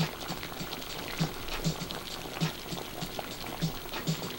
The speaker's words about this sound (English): For some reason, you go into the kitchen and the water is boiling.